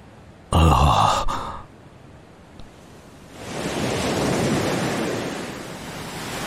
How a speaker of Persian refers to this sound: چه صدای گوش نوازی. حالا فهمیدم ضربان قلب من صدای امواج اقیانوس بود.